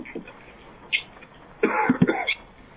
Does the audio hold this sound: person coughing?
yes